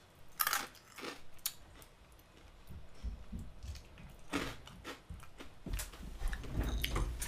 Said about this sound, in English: In the meantime, I am just going to sit here and eat some more Gorilla Munch.